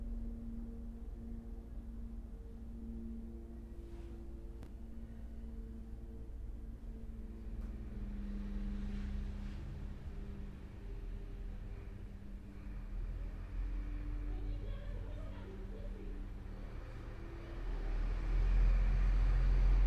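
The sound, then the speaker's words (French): A passing car's engine rumbles steadily, its low drone swelling louder toward the end as the vehicle draws near. No one speaks. “Par exemple, une voiture qui passe, l'expiration qui est devenue lente.”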